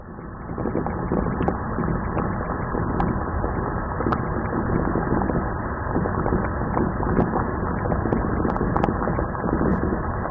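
An egg boiling in a saucepan: a steady, dense rumble of bubbling water with scattered sharp little clicks and taps throughout, holding an even loudness for about ten seconds, with no voices.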